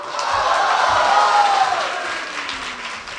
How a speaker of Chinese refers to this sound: 谢谢朋友们的掌声。 哎，多热情啊！ 如果说您这个掌声再热烈点会更好。谢谢。